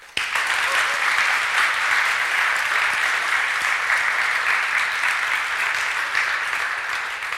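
Sustained audience applause at the Datenspuren 2024 event, honoring the artwork, T-shirts and design, a dense, steady wash of many hands clapping that starts abruptly and holds at an even, fairly loud level for several seconds, with no talking over it.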